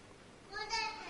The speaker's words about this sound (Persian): خانم اون بچه تونو ساکت کن.